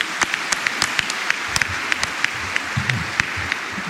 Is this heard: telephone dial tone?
no